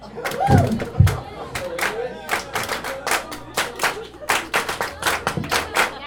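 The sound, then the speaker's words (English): A steady run of sharp handclaps, roughly a dozen in a loose rhythmic pattern, loud and crisp over a low musical backing, with some voices murmuring early on. “This song sounded has like a clap.”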